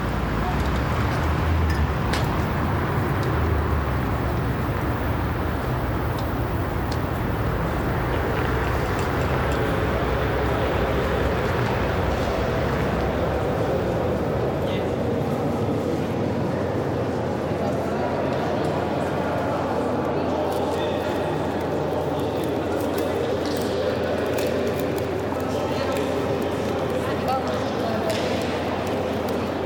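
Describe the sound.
A steady wash of crowd murmur fills the large, echoing hall of Gare du Nord (North Station) in Brussels at about 7:30 in the evening, at the end of rush hour, with many indistinct voices, footsteps and occasional clatter, continuous and fairly loud throughout.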